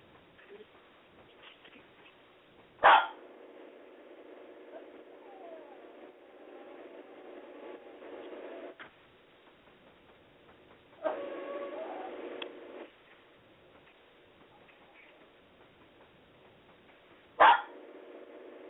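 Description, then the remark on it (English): A dog barks loudly and sharply at intervals: a single bark near the start, a longer muffled burst midway, and another sharp bark near the end, with quiet background between. “Oh, here's a damn dog barking.”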